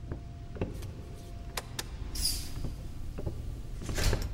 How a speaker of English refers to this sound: I'll shut the door.